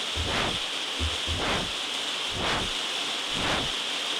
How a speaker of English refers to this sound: So it's 0 hertz at the moment, so let's set it up to 4,000. Here comes the rain. 4,000.